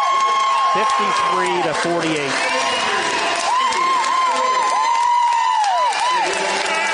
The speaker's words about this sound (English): Bradford fans celebrating behind us, as you can hear. 53-48, Indians lose by five to the Bradford Railroaders.